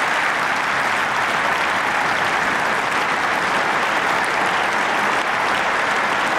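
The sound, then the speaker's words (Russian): Loud, sustained applause from a large crowd, a dense steady roar of clapping that keeps going without a break for the whole stretch, with no voices rising above it. Members of the German Bundestag give Ukrainian President Volodymyr Zelensky a prolonged ovation at the start of his speech. “В начале речи члены Бундестага приветствовали украинского президента продолжительной овацией.”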